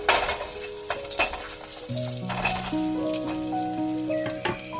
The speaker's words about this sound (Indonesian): Nanti kalau su panas minyaknya, masukkan bumbu yang su halus. Tumis sampai harum.